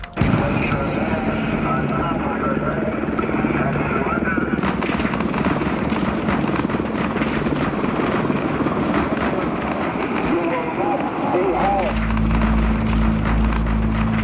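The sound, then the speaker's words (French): A National Guard helicopter roars steadily overhead as it releases tear gas on mutineers at Attica, its loud, churning rotor noise filling the whole scene, with muffled commotion underneath and a deeper rumble swelling near the end. “Un hélicoptère de la garde nationale commence par lâcher les gaz lacrymogènes et ordre est donné aux mutins de se rendre.”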